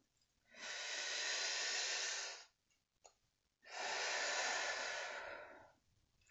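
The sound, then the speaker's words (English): Two long, deep breaths, each a steady airy rush lasting about two seconds, separated by a brief quiet pause, with no talking; breaths taken standing with legs about shoulder width apart during a guided breathing exercise. “Let us take 3 deep breaths in.”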